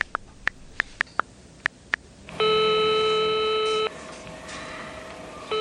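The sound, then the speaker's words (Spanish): A rapid series of short electronic keypad beeps as a phone number is dialed, followed by a loud, steady ringing tone from the phone, with no voices present. “Le pillo la mano, que como él estaba inconsciente en el suelo, pues no se entera, y activo el teléfono. Y entonces, marco.”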